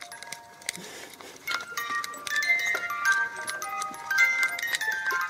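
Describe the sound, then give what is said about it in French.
An emergency alarm signal, pulled by hand, goes off, a jangle of bright, overlapping electronic tones that ring out repeatedly and build in loudness, with no voices over it. “À ce moment-là, je tire le signal d'alarme, comme ça.”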